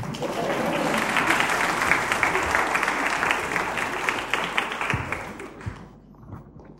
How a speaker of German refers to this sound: Vielen Dank. Ja, ihr könnt ruhig klatschen.